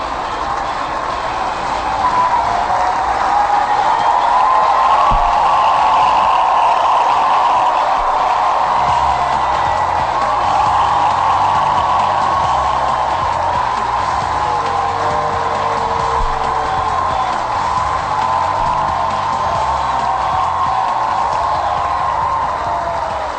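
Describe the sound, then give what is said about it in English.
A ballpark crowd of Jacksonville Suns fans applauds and cheers as pitcher Justin Nicolino finishes his night, a steady, loud roar that holds for over twenty seconds, a dense wash of clapping and shouting with no one speaking over it. “Let's listen to the crowd.”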